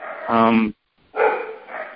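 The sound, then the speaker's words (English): Two loud dog barks separated by a brief pause, each one harmonic and sustained, the second rougher and trailing off. “I'm sorry, my dogs are going nuts.”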